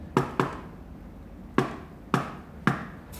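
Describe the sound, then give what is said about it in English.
Sharp knocks on a wooden door, fairly loud: two quick raps, a pause, then four more spaced evenly apart, like a patterned signal knock. No voices. “Hold on, you have to knock.”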